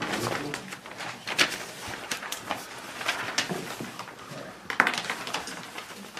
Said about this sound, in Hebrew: הציפור אומרת לנו שהגיע הזמן של השעה עם ב... לא, היא מקדימה קצת. היא תמיד באותו זמן. היא לא מקדימה, היא יודעת טוב מאוד. היא עושה רצון קונה. זה הצירוף האמיתי, זה ציפור.